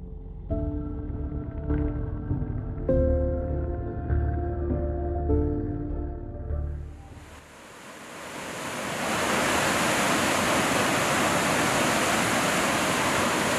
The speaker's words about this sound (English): A river of water rushes off a glacier and into the sea in Greenland.